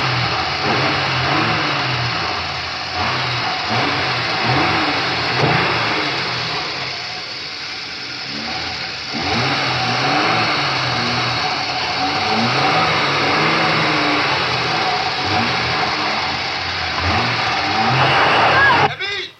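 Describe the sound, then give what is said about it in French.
A car engine revs loudly and rises in pitch as the car pulls away, with a steady hum running under it and muffled voices in the background. “Il l'a laissé partir dans la voiture de Procope.”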